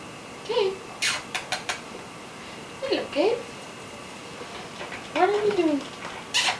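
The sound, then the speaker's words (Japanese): A cat on Cat Street near Omotesando, being spoken to in English, gives three short, rising-and-falling meows spaced a couple of seconds apart, fairly soft, with a few quick clicks and taps between them against a quiet background. “先生が猫に話しかけている様子を見ていたら、あることに気がつきました。”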